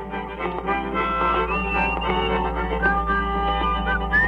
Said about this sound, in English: You could hear him overdubbing and whistling and harmonizing with himself.